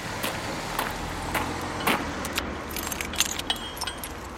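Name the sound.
keys jangling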